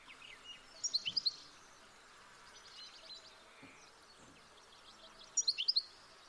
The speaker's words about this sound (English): So next we are going to listen to the European goldfinch.